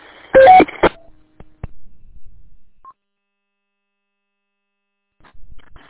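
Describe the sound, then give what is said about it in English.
A short two-note electronic end-of-transmission beep from a Chinese-made Waxin mobile two-way radio in a truck rings out over a burst of radio static near the start, followed by faint clicks and mostly quiet, with another brief crackle of noise at the end. “It must be a Chinese mobile or something, because it's got the beep at the end of it.”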